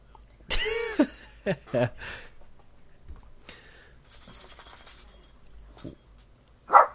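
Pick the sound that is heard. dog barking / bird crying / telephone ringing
dog barking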